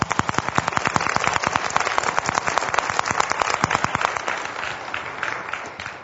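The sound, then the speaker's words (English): A crowd claps in a dense, rapid burst of applause, loud at first and gradually thinning and fading toward the end, with no voices over it. “And so, because you have gone on this journey, what I would really like to do, I want to give Jesus a huge round of applause for his faithfulness.”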